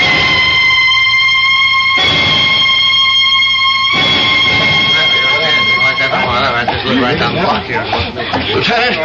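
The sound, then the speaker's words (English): Sirens of approaching police cars blare a loud, steady, high tone in long two-second blasts, then give way to a jumble of overlapping voices and commotion that carries on to the end. “Those police cars. They're coming here.”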